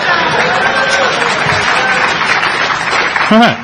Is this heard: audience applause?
yes